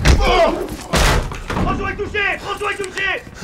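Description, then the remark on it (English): A door crashes down with two loud, heavy impacts about a second apart, followed by raised, shouting voices. “The door crashes down, the room goes dark, flash grenades go off, it's pitch dark again.”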